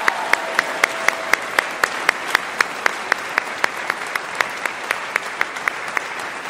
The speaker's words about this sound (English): Can we just give one last round of applause to these professors, faculty, and staff?